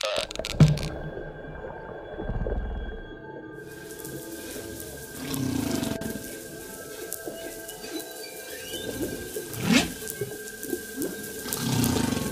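Humpback whale song: a series of low, drawn-out moans and groaning calls, with higher whistling tones threaded through, echoing as if underwater. There is no talking.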